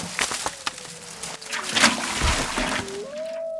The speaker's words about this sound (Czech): Vlk černý jako kominík spadl přímo do vařící vody.